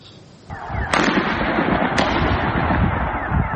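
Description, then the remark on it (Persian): Sharp gunshots crack out of a dense, rumbling outdoor din during protests over a gasoline price rise in the city of Qods, west of Tehran, Iran: two distinct reports about a second apart, loud and echoing over continuous crowd or wind noise. “صدای تیراندازی در برخی مناطق ایران از جمله در شهر قدس واقع در غرب تهران و تظاهرات شبانه دانشجویان دانشگاه تهران بخشی از چهارمین روز تظاهرات اعتراضی در ایران، اعتراضاتی که پس از اعلام افزایش قیمت بنزین آغاز شد”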